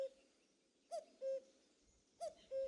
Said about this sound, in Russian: Кукушка в сумраке лесном, ночной вселенной метроном, природы маятничек точный. Звезда, плывя по сосняку, сверяет с простеньким ку-ку лад вековечный, ритм бессрочный.